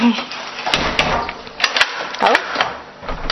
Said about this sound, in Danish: Jeg lukker altså lige døren, så det ikke trækker.